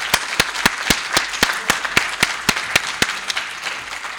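An audience applauds with a steady, evenly spaced beat of sharp claps standing out above a dense wash of clapping, sustained for several seconds with no voices.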